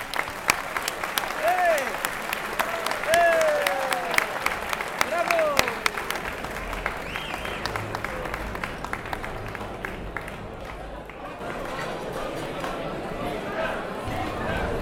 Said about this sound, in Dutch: We zijn heel blij en heel fier aan te kondigen dat ze vandaag voor ons nog even willen optreden. Ik wens hen een heel mooie voorstelling toe en ik zou jullie vragen om hen te verwelkomen met een heel hartelijk applaus.